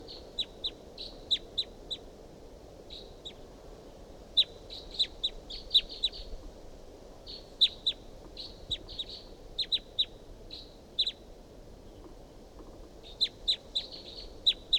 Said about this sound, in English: It's up in the top of this tall pine above the truck, pointed up at the wild bird. Wild bird calls, responds by decoys. Chitter by the wild bird. Recording calls of the wild bird.